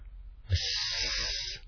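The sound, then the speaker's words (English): A voice imitates an aerosol deodorant spray: one steady, breathy hiss lasting just over a second, moderately loud, with a faint voiced hum underneath. “When you spray a deodorant, it goes mist, you get like a mist.”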